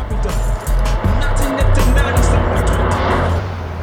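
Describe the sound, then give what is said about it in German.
A bright yellow Daihatsu drives by loudly. Heavy thumping bass from blaring hip-hop music pours out of it as it passes, along with the engine and road noise. “dem Rückweg zu Bobs Käfer fuhr ein knallgelber Daihatsu an den drei Detektiven vorbei, aus dem laute Hip-Hop-Musik drang.”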